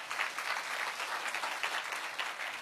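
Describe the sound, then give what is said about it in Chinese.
A church audience claps together to give glory to the Lord in sustained, dense applause, a steady wash of many hands at an even moderate loudness throughout, with no voices standing out. “愿意的拍手把荣耀归给主，好不好？”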